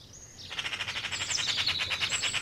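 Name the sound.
magpie calling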